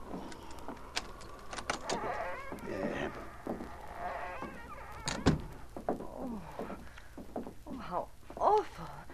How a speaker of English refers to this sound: I'll unlock the door.